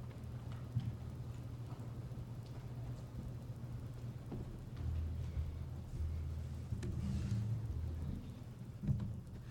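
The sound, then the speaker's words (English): Steady rain falls with a low, continuous rumble of thunder underneath, swelling louder in the second half, with scattered sharper drips and taps throughout and no voices. “I really appreciated the background, the rain, you know, coming down.”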